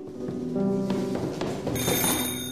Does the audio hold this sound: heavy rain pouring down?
no